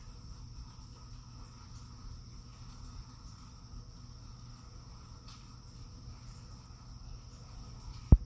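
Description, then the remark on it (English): Rain falls steadily outside a window, picked up by a microphone placed right by the window: a soft, continuous hiss with a faint high whine running through it and no voices, ending in a single sharp click. “It's raining out, and I hope you can hear the rain. I'm sitting right by the window.”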